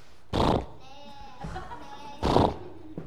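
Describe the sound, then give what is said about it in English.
A person imitates a horse neighing, giving a breathy snort, then a wavering, descending whinny-like voice, and finishing with another forceful puff of breath, all fairly loud. “So, like, if I were going to imitate, like, a horse.”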